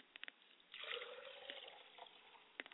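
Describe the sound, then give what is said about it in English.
Liquid poured as a libation to Yemaja in the Yoruba faith, in a steady stream for about two seconds, bracketed by a few scattered drips and splashes before and after, with no voices. “I pour libation to Yamenja today, and I say, Ashe.”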